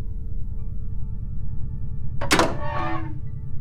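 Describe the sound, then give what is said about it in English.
A heavy clunk as a door bolt releases, followed by a brief sliding whoosh as the door opens, all over a steady low mechanical hum with no voices. “It took me a while to figure out how to get the door unbolted, even once the override was gone.”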